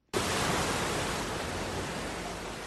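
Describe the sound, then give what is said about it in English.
A steady, broad wash of surf noise as waves lap against the beach outside a scuba diving center in the Southern Plateau neighborhood of Dakar, Senegal, continuing evenly for a few seconds with no voices present. “Waves lap up against the beach outside Oceanium, a scuba diving center and environmental organization in Dakar's Southern Plateau neighborhood.”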